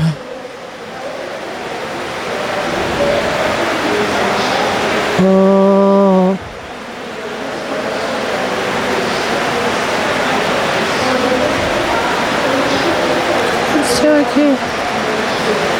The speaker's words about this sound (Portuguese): Ah, caraca. Tá chovendo aqui.